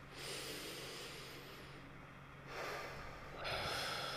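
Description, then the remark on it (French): An airy inhalation drawn in slowly through the nose, followed by a couple of further noisy breaths, with no talking. “Prendre une grande respiration.”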